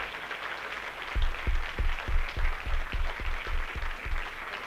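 An audience applauds with steady, rhythmic clapping, around ten evenly spaced beats over a continuous wash of crowd noise, moderately loud, with no one speaking.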